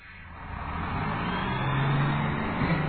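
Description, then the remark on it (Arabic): A bus carrying school students on a tour of the capital's tourist sites drives along the road with a steady engine drone and broad road rumble, its low hum rising slightly in pitch as it picks up speed. No voices are heard. “إنه منشغل بقيادة الباص ولا يراني.”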